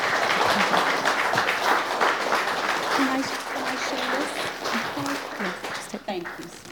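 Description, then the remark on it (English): Steady audience applause fills the whole stretch, a dense, loud crackle of many hands clapping at once, with a few voices calling out briefly underneath. “Give them a round thank of applause.”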